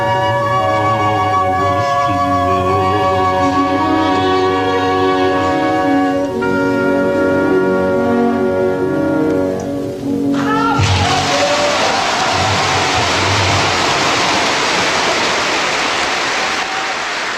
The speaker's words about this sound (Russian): Вы слышите эти овации в адрес 90-летнего Марка Осиповича Резина. Мне посчастливилось быть на том спектакле «Евгений Онегин», и я хорошо помню, как весь зал Большого театра в едином порыве стал приветствуя артиста.